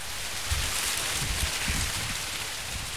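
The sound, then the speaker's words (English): A steady, dense rustle of dry corn stalks in a farm's corn maze, stirred by strengthening wind, with soft low gusts swelling now and then beneath the hiss; no voices. “The wind is getting stronger and you can hear the corn stalks rustling.”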